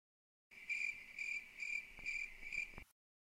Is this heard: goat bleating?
no